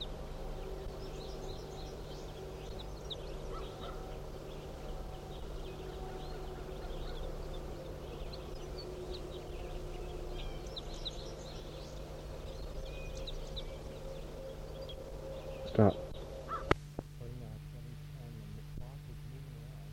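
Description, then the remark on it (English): A flock of about 25 birds calls in faint, scattered bursts of high chirps over a steady low droning hum, with a brief sharp knock near the end. “Start recording the flock.”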